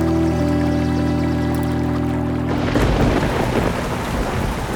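A thunderstorm with heavy rain: a low, steady droning rumble gives way midway to a loud burst of thunder and a dense wash of pouring rain, with no voices.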